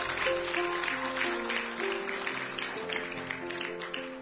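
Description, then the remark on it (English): An audience at a worship service claps in praise in a steady, fairly loud wash of applause, while sustained organ-like keyboard chords play underneath. “Just give him a hand clap of praise.”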